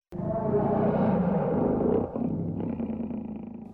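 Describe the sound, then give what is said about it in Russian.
A person growls in a long, continuous imitation of a lion's roar, loud, holding the rough sound for nearly four seconds with a brief dip midway. “Лев рычит, рычит, рычит.”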